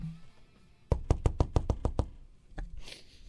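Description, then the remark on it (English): A quick, even run of about eight firm, loud knocks on a door in Las Vegas, followed by a short pause and one final knock, with no voices. “By the way, this is the best sound ever in Las Vegas.”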